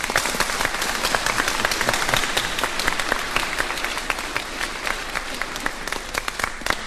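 An audience applauds steadily for several seconds, a dense, even wash of many hands clapping at once with no voices over it.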